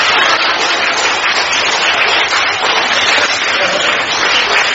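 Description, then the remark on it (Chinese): A large crowd applauds steadily for the whole stretch, a dense, even roar of many hands clapping at once with no pauses and no voices rising above it. “现在掌声已经达到800人的响声了。”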